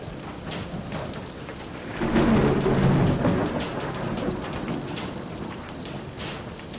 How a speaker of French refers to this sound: Ce soir, la voûte céleste est masquée par les nuages sur l'observatoire de Haute-Provence. Impossible de capturer des photons cette nuit. Je regarde les gouttes de pluie s'écrasant sur le sol.